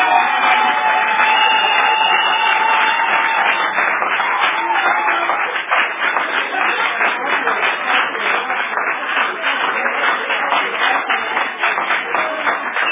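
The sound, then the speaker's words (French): An audience applauding for the Holy Spirit, a dense, steady wash of many hands clapping at once, loud and sustained throughout with no voices standing out. “Quand vous avez applaudi pour l'Esprit Saint,”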